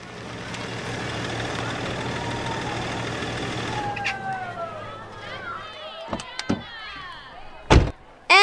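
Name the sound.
car arriving and idling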